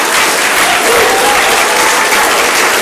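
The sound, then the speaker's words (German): An audience bursts into loud, dense applause for God that holds steady for about three seconds, with a few cheering voices mixed into the clapping and no speech. “So, und jetzt will ich einen Applaus für Gott hören.”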